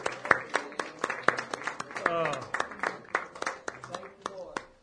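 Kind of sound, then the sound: crowd, audience clapping hands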